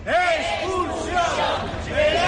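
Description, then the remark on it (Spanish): A crowd of pro-Palestine protesters in Laredo, Spain, at the start of a cycling race stage, shouts chants in unison against the Israel team, calling for its expulsion from the competition; voices overlap in a loud, sustained rhythmic roar with rising and falling pitch. “Bueno, de momento son gritos, son cánticos en contra del equipo Israel, pero hay que decir que hay buenas noticias porque es civilizado y que no ha habido ningún tipo de incidente.”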